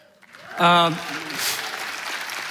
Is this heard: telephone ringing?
no